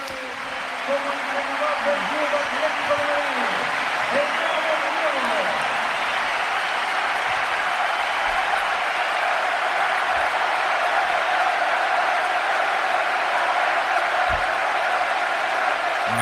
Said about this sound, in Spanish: ahí está el Cholo agradeciendo el aplauso a los cuatro costados del Metropolitano